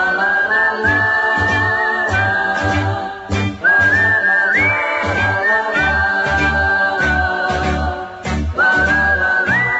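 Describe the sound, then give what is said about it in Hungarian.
A bright whistled melody carries a cheerful tune, sliding between held notes over a steady, bouncy musical accompaniment with a thumping bass beat. No one speaks. “Fütyülök, ha baj vagy bánat ér, ez a legjobb gondűző.”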